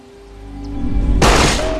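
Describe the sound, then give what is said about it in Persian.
A single loud gunshot cracks out at target practice after a low, swelling rumble, its bright blast trailing off into a noisy echo. “نشونه بگیر. سعی کن چشماتو باز نگه داری. شلیک کن.”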